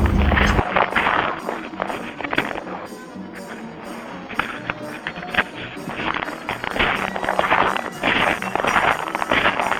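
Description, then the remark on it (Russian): Steady, rhythmic crunching footsteps on dry snow, each step a harsh, gritty squeak repeating about twice a second, loud and continuous throughout with no voices. “Так скрипит наш снег. Это наши шаги.”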